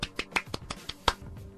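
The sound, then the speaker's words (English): A rapid run of about eight sharp hand claps, quick and slightly uneven, as one person mimics applause as a sound effect; no one speaks. “We should have had like an applause, like a big, like a sound effect. Something like this.”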